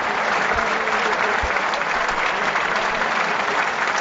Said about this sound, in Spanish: Vaya ovación, ¿eh? Escuchamos la ovación a Pablo Insua.